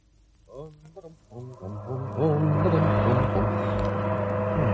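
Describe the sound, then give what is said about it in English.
An old car's engine turns over and revs in a few rising bursts, then settles into a loud, steady running drone with a low hum and broad rushing noise as the car drives along an empty road toward London. “The old bus is running well.”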